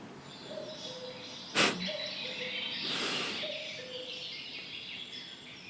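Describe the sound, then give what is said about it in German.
A cuckoo calls its falling two-note cry three times at a steady pace, fairly faint, with a sharp click and a brief rushing noise in between. “Nö, der Kuckuck muss warten.”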